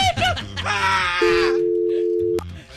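A loud, steady telephone dial tone holds for about a second as someone dials the phone, then cuts off with a sharp click, following a brief burst of strained vocalizing and talk.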